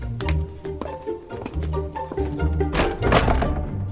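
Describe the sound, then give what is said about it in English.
The heavy front door of Lord Bearstead's house being opened into the entrance hall: a run of wooden thunks and latch knocks over a low rumble, ending in a louder, scraping burst as it swings. “I would love to go in through the front door.”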